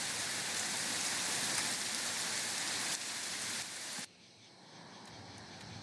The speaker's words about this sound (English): Very rainy out.